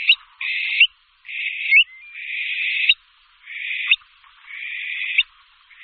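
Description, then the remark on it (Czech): A Eurasian stone-curlew, recorded in 1994 in an abandoned military training area near Mladá in the Nymburk district, gives a series of six high, drawn-out wailing whistles, each ending with a slight upward flick, separated by brief pauses, with no other sounds. “Tak třeba v roce 1994 byl nahrán hlas v opuštěném výcvikovém prostoru u Mladé na Nymbursku.”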